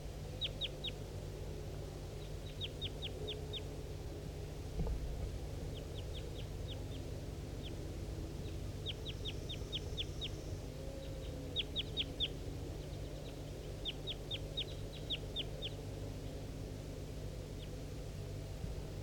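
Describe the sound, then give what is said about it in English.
A male wild bird calls in repeated bursts of quick, high-pitched chirps, each run of several sharp notes, over a steady low hum and background noise. No one speaks. “That was a wild bird.”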